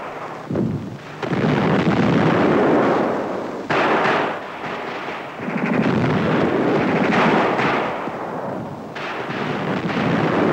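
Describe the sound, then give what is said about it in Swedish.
Dense, continuous battle noise from the Finnish side of a border river, with rapid bursts of gunfire and heavy rumbling blasts layered together, loud and sustained with brief dips before surging again; no voices. “Svenskarna anropas om hjälp och svenska sjukvårdare rusar till undsättning i kulregnet.”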